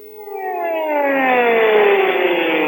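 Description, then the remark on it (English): An air raid siren in Israel wails steadily as a real warning during an Arab armies' attack on Yom Kippur, its tone slowly sliding downward as it sustains loud and continuous throughout, with no voices present. “For the first time since the Six-Day War, the sirens were for real.”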